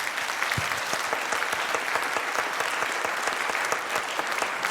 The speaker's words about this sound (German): Okay, dann möchte ich noch einmal einen ganz lauten, großen Applaus bitte haben